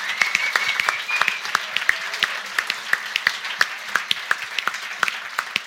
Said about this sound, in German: Ich würde an der Stelle mir wirklich wünschen, dass ihr ganz großen Applaus für die Künstlerinnen und Künstler von Faktura spendet und ihr diesen Applaus mitnehmt.